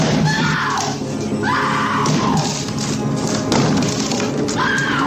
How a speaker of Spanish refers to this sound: Nicholson, a chan mano, intenta derribar la puerta del baño donde se esconden su mujer y su hijo.